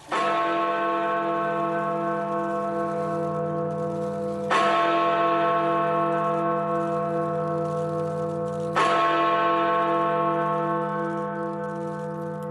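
The Big Ben clock tower bell in the United Kingdom strikes three times at slow, even intervals, each deep, loud toll ringing out with a long humming decay that overlaps the next, marking the end of Britain's European Union membership on 31 January 2020. No voices are present.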